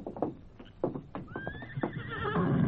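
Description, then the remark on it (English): A paint horse, Scout, whinnies with a high, wavering neigh that rises and trails off, following a few clopping hoofbeats at moderate volume, with no voices. “Hey, that paint horse. Is a fine one, eh, amigos?”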